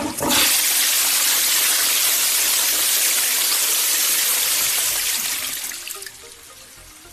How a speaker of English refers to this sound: we should all consider how we deal with our waste and give a thought or two before flushing our toilets.